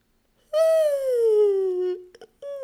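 A long, drawn-out human yawn with a voiced tone that slowly sinks in pitch, clear, made while reaching up on one side to stretch between the ribs, followed by a few quick breathy catches and the start of another yawn.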